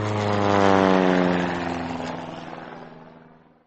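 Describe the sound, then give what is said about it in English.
An early propeller airplane, the first plane that ever flew, drones past at an air show, flying low, with a buzzing, steady engine hum. It is loudest near the start, then gradually fades as the plane moves off. No voices. “That is the first plane that ever flew, says Mama.”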